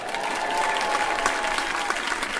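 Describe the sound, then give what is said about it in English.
A crowd bursts into sustained applause and cheering for three YouTubers brought on stage, dense clapping with a few whistles and shouts rising above it, steady and loud throughout. “Look, we've got three tubers here, give them a big cheer.”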